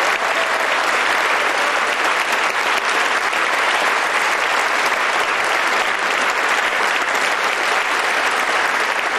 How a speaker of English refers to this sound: See? He got applause. This is what happens when people like you.